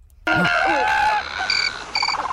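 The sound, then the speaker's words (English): A cricket chirping sound effect, played on The Edge radio show in place of a requested bird sound effect, plays alone: loud, shrill chirps and trills with a busy, layered texture, ending in two short pulsed bursts of high-pitched chirping. “I said to you a bird sound effect and you got a cricket sound effect.”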